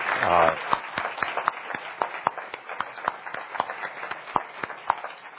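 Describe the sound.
Scattered applause from a small audience, with sharp, irregular claps continuing steadily for several seconds after a brief voice at the start.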